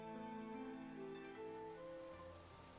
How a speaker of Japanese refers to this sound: おお、雨か。 あら、まあ降り始めましたね。